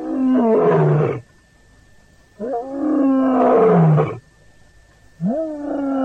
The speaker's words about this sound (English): From those seldom heard underwater sonar sounds of the dolphin to the more familiar roar of the king of beasts.